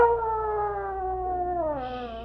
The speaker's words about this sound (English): Shh. I hear a coyote.